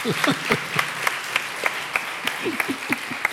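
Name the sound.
hand clapping applause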